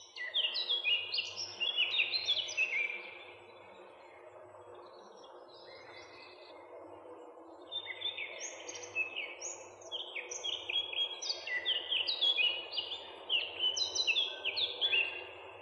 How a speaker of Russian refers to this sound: А это песня Славки Черноголовки, одного из наших лучших лесных певцов.